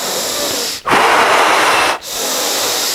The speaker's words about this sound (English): Like really deep breathing. This is like exaggerated.